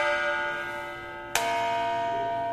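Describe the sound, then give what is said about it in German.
A large church bell with strike note B0, struck at different spots to bring out its different tones, hums with rich, lingering overtones, then is struck again sharply midway, its loud metallic clang blooming into a fresh, sustained ring. No voices are heard. “Das heißt, wenn ich die Glocke an verschiedenen Stellen anschlage, kann ich auch verschiedene dieser Töne hörbar machen.”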